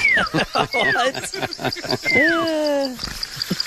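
An unidentified bird in a backyard gives three loud, descending whistled calls over a steady high insect-like drone, with a busy chatter of other sounds between the calls.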